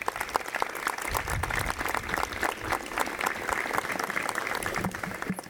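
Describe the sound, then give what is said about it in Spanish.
Steady applause from an audience in Tacoronte welcoming the first deputy mayor and festivities councillor, Noemí García, at the presentation of the programme for the Fiestas del Cristo 2023: a dense continuous patter of many hands clapping at even loudness for several seconds, with no voices standing out. “Adelante, un aplauso para recibirla.”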